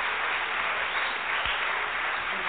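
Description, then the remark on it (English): A crowd applauds steadily, a dense, continuous wash of many hands clapping at once, fairly loud and sustained throughout with no voices standing out. “I knew that's what you were thinking, that those folks thank are clapping you.”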